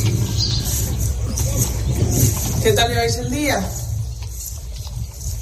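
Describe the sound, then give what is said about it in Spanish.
Strong wind rumbles steadily across an open field while sheep move about. A woman speaks a short greeting to the sheep, and a brief, wavering bleat-like call rises midway. “Se oye el viento, esa frase y unas ovejas.”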